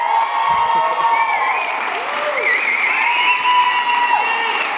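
audience applause and cheering

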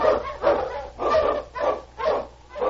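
husky sled dogs barking

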